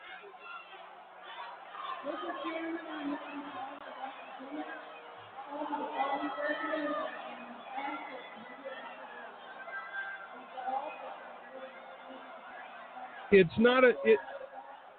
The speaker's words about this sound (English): It's not just a bad, I mean, you can't hear anything. I can't hear what she's saying, but there's a lot of yelling from the floor as these two groups go back and forth against one another.